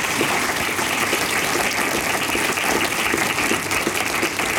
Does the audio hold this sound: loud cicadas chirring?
no